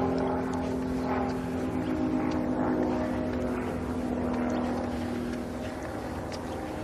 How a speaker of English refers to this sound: Plane heading over in the direction of the airport. There is an airport out there somewhere, out to the east of us. I don't have a really good understanding of where out there it is. But I know that there is a local airport. Small planes.